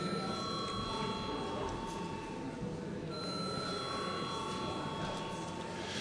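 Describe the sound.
A continuous electric bell rings steadily for several seconds in a parliament session, called for just before a vote on a bill: a sustained metallic tone with bright harmonics over a murmuring room and faint voices in the background.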